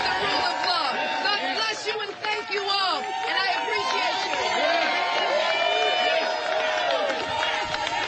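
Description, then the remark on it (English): A loud, dense crowd fills the whole stretch, overlapping chatter broken by high-pitched shouts and screaming voices that rise and fall without pause. “I just wanted to let you know who you might be hearing screaming in the background.”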